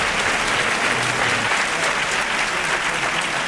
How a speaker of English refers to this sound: I'm John Donvan, your host and moderator, and the applause you hear was actually for both sides in this debate because in terms of sheer numbers, the majority of the audience came into the debate supporting the side for the motion